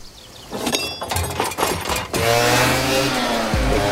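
A few clanks and rattles, then a moped's small two-stroke engine sputters to life and revs loudly, its buzzing pitch climbing as it pulls away, a young man riding it with a girl on the back.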